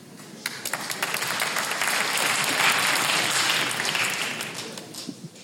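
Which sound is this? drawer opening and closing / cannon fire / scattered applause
scattered applause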